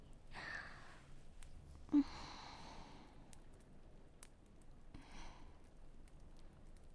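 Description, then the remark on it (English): Soft, breathy whooshes of wind come in three separate gusts, each rising and fading over about a second, with a faint low rumble and quiet stretches between them. “Wow, so windy.”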